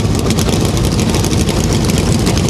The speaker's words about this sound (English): Drivers, start your engines. Woo! Engines come to life on the pit lane.